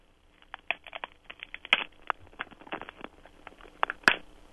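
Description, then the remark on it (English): Three celery stalks are twisted to make an ice-cracking sound effect for a show, giving a rapid, irregular series of sharp crackles and snaps like ice cracking, with a few louder pops standing out. No one speaks. “It's three stalks of celery being twisted.”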